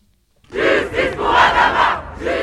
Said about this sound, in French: Des centaines de personnes s'étaient rendues devant le tribunal pour manifester leur soutien à la jeune femme.